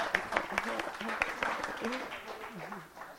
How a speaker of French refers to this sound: Voilà, on peut applaudir très fort.